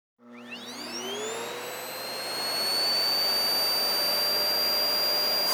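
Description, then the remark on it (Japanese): A vacuum cleaner, used to clean under a bed all the way to the back, switches on and whines up to full speed within a couple of seconds, then runs steadily with a loud, high-pitched motor hum and constant rushing air. Nobody speaks. “ベッドの下も、奥の方まで掃除機かけてあげなきゃ。”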